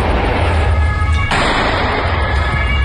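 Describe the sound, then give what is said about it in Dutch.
A single sharp gunshot cracks out midway through as police shoot at a man at a cinema in Krefeld, Germany, cutting across a loud, steady low rumble that continues throughout; no one speaks. “In Krefeld in Duitsland heeft de politie geschoten op een man. Dat gebeurde aan een bioscoop, je hoort het hier.”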